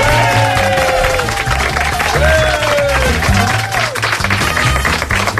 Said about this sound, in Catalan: Un aplaudiment